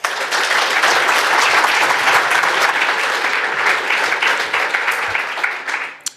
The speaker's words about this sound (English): Here is the tax man with the International Exchange of Tax Information. Why don't we give him a huge round of applause?